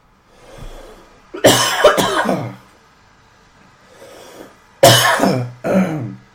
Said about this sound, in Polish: Ktoś mi jakiś kaszel łapie. Chociaż nie powinien, bo jest ciepło.